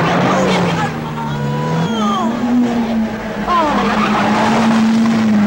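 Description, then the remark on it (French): A car engine drones steadily and loudly throughout, with tires squealing in sweeping, wavering bursts around the middle and again later as the vehicle is pushed hard through turns. “Regardez-moi cette tenue de route. Avec un type comme moi et une voiture comme ça, ben, c'est le maximum.”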